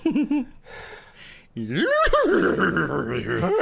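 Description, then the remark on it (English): A voice makes a strained, warbling whinny-like sound, imitating a horse neigh played in reverse: a short breathy lead-in, then a loud, wavering cry that swells and holds to the end. “And then speak in a backwards nay to Baphomet.”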